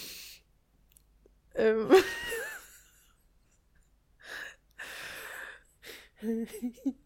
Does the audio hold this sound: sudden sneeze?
yes